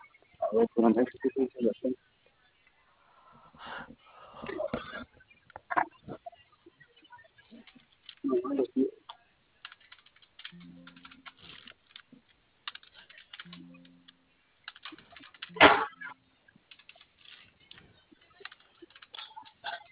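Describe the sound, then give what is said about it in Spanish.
Irregular bursts of keyboard key clicks as someone types, with brief pauses between runs and one sharper louder clack; faint low hum and some background murmur underneath. “Está encendido. Sí, tiene prendido el teclado.”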